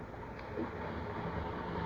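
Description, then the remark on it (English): A steady, dense rumble of station ambience on the platform at Newcastle Station, with the low drone of an idling train and a faint clank partway through, continuous for the whole stretch, a few minutes before train time. “But there was no stain on it that morning of May the 20th, 1930, when the two men, one wearing this particular shoe, walked along the platform at Newcastle Station. It was a few minutes before train time.”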